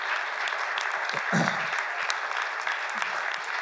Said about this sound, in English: Church, can we clap our hands for everybody that makes sure the building is clean here?